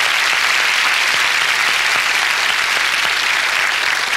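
Steady, loud applause from a sizable audience, a dense wash of clapping hands that holds at an even level for several seconds with no voices standing out.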